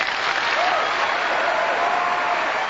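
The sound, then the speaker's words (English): Sustained audience applause for Dr. Richard Alley as he says it is easier to prevent carbon from entering the atmosphere in the first place, a dense, steady wash of many hands clapping at an even loudness throughout, with a faint voice or whistle-like tone drifting through the middle. “It is easier, Dr. Richard Alley says to applause, to prevent carbon from entering the atmosphere in the first place.”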